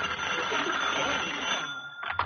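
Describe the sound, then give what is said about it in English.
A telephone bell rings in a continuous bright, metallic jangle that breaks into a couple of short, separate bursts at the end. No one speaks. “the phone.”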